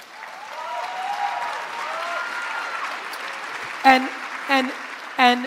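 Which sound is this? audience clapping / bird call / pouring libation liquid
audience clapping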